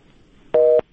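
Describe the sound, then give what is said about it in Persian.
A single telephone busy-signal beep, a steady two-tone hum lasting about a quarter second, sounding alone after near silence, after a listener's call into the program was cut off. “متاسفانه تماس از شنونده ما قطع شد.”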